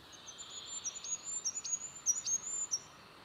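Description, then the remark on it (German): A goldcrest's song played back from a recording on a mobile phone: a very high, thin, fast run of rapid repeated notes, fairly quiet over a steady background hiss. “Gesang des Wintergoldhähnchens.”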